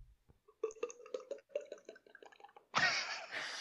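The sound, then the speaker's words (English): A voice imitates wine pouring into a glass: a quick run of rhythmic, hollow glugging pulses, fairly loud, ending in a breathy, hissing splash. “It's the same way that I figured out I could do the sound of a wine pouring into a glass.”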